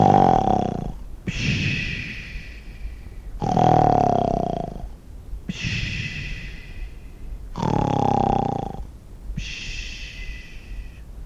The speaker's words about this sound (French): Personne n'aimait à coucher au-dessous d'elle, car elle ronflait très fort et troublait la tranquillité des voisins.